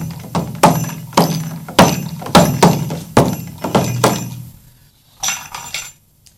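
Bright, ringing strikes on a cymbal bell in a quick, uneven rhythm, each hit a sharp metallic ping with a short shimmer, ending with a softer cluster of taps after a brief pause.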